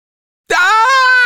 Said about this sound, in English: Ah! Screamed the boy. The most monstrous face he had ever seen was peering down at him.